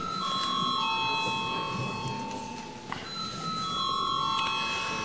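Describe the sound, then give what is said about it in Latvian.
A voting bell in the Latvian parliament rings steadily with a sustained electric tone before a vote on a bill in first reading, breaks off briefly about halfway through, then resumes over a faint murmur. “Paldies, lūdzu zvanu.”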